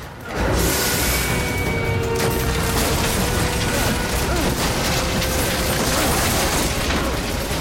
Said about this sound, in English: Alex kicks frantically at the door as the metal jaws of the crusher begin to close around the car.